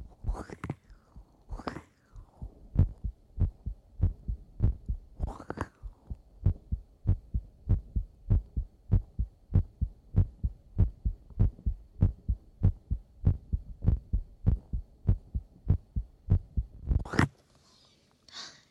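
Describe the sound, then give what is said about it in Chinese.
A steady, muffled heartbeat thumps at an even pace, around thirty beats in a row, picked up by a new, inexpensive microphone pressed against a bare chest, with a few soft rustling or breathy bursts near the start and a brief scrape at the end. “首先把衣服卷起来，再把麦克风贴上来，听一下，听一下。那完全 OK。我真的好久没有做心跳了，好久。”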